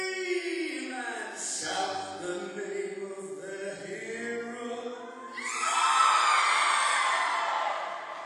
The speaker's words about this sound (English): The moment of triumph when the girls scream.